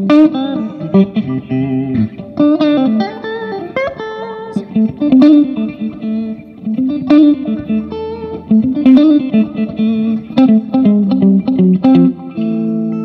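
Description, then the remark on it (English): A clean electric guitar plays a steady melodic line drenched in a filtered delay effect, each note trailing into softened, darker echoes that blur together, loud with no voices. “I have some other delays that go for more of like a filter kind of thing, which is cool as well.”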